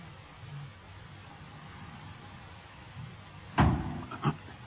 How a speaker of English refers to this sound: What was that? Something hit the ship.